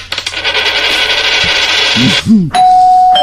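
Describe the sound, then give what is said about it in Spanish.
A doorbell chime rings out clearly near the end, a single bright sustained tone, following a couple of seconds of loud jingling, clinking coins. “Hombre, esto es fácil, el edificio de moneda y timbre.”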